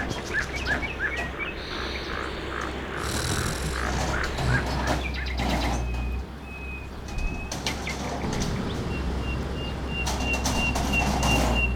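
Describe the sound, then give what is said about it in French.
A dense, continuous chorus of thousands of birds chirping and calling at once as they leave their nests in a forest while machines tear out the trees, loud over a steady rushing, rustling background, with a few sustained whistled tones cutting through. “Les oiseaux par milliers quittent leur nid.”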